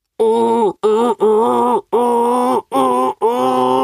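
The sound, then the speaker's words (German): A voice imitates the bellowing roar of Erki, an elk in a story, booming through the forest as well as the big elks, in six loud, drawn-out calls with brief gaps, each a rich, steady, low-pitched groan with strong harmonics; no speech. “Im Röhren war Erki nämlich mindestens so gut wie die großen Elche, vielleicht sogar noch besser.”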